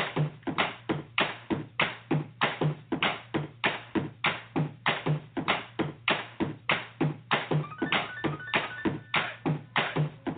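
A crowd claps in steady unison to a beat, about two sharp claps per second, loud and regular throughout with a low hum underneath and a faint tonal ring midway.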